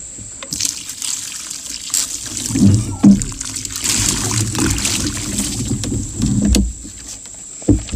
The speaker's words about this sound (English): The rain came down, the streams rose, and the winds blew and beat against the house.